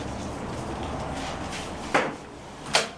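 The door of the Goethe-Institut in Lisbon, Portugal, being opened, heard as two short knocking clunks about a second apart against a steady background hiss, moderately loud.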